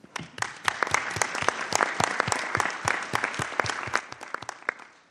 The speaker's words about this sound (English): So thank you to all of you, and I think you need to give yourselves a huge round of applause.